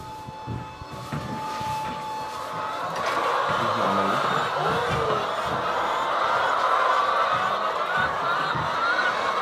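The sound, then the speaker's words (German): A dense, continuous chorus of many chickens clucking and murmuring inside a henhouse, most of them on the floor scratching and looking for food, with overlapping chatter over a steady background hum. “Also die meisten Hühner sind jetzt auf dem Boden.”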